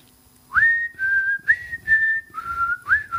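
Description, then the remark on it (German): A person whistles a short, bouncy old advertising jingle, a quick run of clear sliding notes with soft breathy noise underneath and no talking. “Wer kann das Lied pfeifen noch?”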